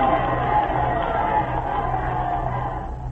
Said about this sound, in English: The spectators are wildly cheering the exploits of their legendary hero, Tamburlaine, shouting their approval at the top of their lungs.